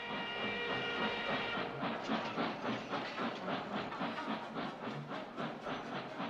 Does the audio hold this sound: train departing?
yes